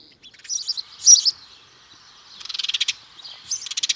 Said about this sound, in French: Très commun celui-ci, hein. Vous l'avez tous les jours en bas de chez vous. Voilà, et il est aussi en voie de disparition. Aussi, en tout cas en déclin, chez nous moins que dans d'autres pays d'Europe, c'est le moineau domestique.